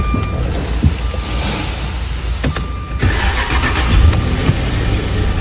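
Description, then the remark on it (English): A car engine starts up and settles into a steady idle, a continuous low rumble with a broad hiss and a few sharp clicks along the way. It is started so the negative battery terminal clamp can be removed while the engine runs, to test the charging system. No one speaks. “So I'm gonna lose this clamp here, but I'm gonna start the engine first. Start the engine.”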